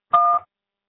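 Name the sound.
voicemail tone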